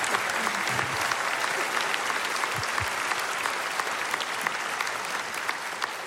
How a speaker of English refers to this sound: And so I'd like you to do me a big favor in all of our campuses by a huge round of applause. Would you give them a Fairhaven welcome?